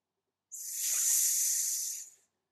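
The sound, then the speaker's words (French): A single long hissing, whistling exhale during a breathing exercise, done with relaxed shoulders, steady and breathy with a bright airy tone, lasting well over a second before trailing off, with no talking. “Donc, tranquillement, sans rien forcer, en détendant bien les épaules, laissez siffler.”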